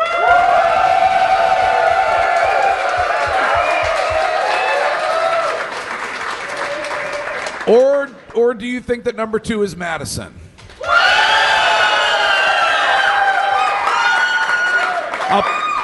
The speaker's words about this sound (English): Now we have to pick number 2 and 3 based on applause. The applause meter is ready to go.